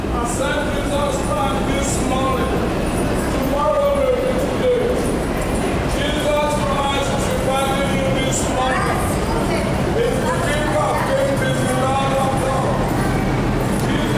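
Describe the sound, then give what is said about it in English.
A man preaches loudly in a subway station, his voice rising and falling in long, emphatic phrases over a constant rumble of trains and echoing underground ambience. “Here's a subway preacher.”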